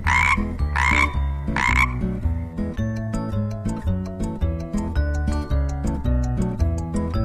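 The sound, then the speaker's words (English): Frogs croak loudly in quick, rhythmic bursts, starting with a few sharp calls and then settling into a steady repeating pattern over a bouncy musical backing. “These are my frogs.”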